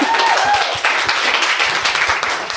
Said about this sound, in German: Also ich kann mit Freude sagen, dass bei der Sanity Group aktuell mehr Frauen als Männer arbeiten. Okay, wir haben, glaube ich, eine Quote von 53% Frauen. Ja, das ist schon mal gut. Das ist ein Applaus wert, oder?